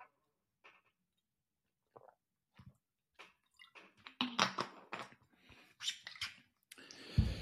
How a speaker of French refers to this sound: Et je prends une petite gorgée et je vous en parle.